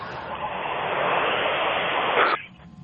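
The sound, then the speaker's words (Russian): Car tires hiss and rustle steadily over asphalt, heard over a caller's phone line during a live radio call-in, in a broad, continuous wash of noise that swells slightly, then cuts off abruptly near the end, leaving faint low background. “слышишь, там что шины такое-то? Машин по асфальту шуршат.”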